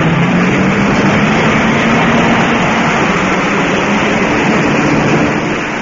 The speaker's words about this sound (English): And now, listeners, everything's in readiness for the start. All the cars are revving up, each waiting for his signal to go. Any minute now. Yes, the first one's off. The Monte Carlo rally's underway.